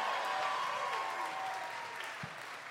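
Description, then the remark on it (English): An audience at a show in Chicago claps steadily for a woman joining Malort shots on stage to close out the show, a dense, sustained wash of applause that holds at a fairly loud level, with a faint voice threading through it before it starts to ease off. “Everybody, come on, give her a round of applause.”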